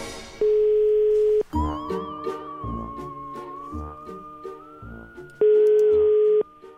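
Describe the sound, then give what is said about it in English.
Two loud, steady telephone ringing tones of about a second each, several seconds apart, with a bright melodic tune playing between them. No one speaks. “Ring him and say... that there's something wrong with his taxi and that you're going to take his taxi off the road.”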